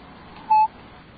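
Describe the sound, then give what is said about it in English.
A single short touch-tone telephone dialing beep as a phone number is dialed, steady and mid-pitched, lasting a fraction of a second and clearly louder than the faint hiss around it. No one speaks. “We have a touch tone phone.”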